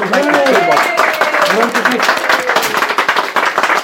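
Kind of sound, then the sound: crowd, audience round of applause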